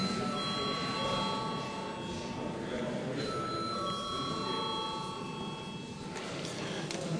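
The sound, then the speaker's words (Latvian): A steady electric bell rings continuously for several seconds in a parliament chamber before a vote, its bright tone holding over a busy murmur of voices and movement. “Paldies, lūdzu zvanu.”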